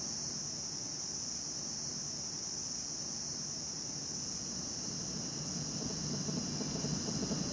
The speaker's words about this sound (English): It's very different here during the night. Yeah. The crickets are very loud. Yeah, of course. Are they crickets?